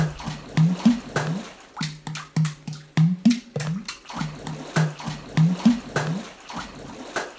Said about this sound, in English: And water drumming, you know. When you get in a bathtub in a swimsuit, have your mom hold a microphone while you smack the surface of the water.